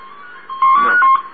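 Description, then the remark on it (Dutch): A telephone rings with a bright electronic warble, one short burst that swells loud for about half a second, heard alone. “Dit is dezelfde telefoon als van mijn Chinees.”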